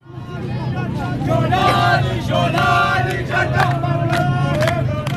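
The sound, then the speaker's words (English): A large crowd of several thousand people in Tadamon, a poor district of Damascus, Syria, shouting and chanting together, a loud, dense roar of many voices with rising cries sustained throughout, a low rumble of vehicles underneath. “There is a crowd that is big and getting bigger.”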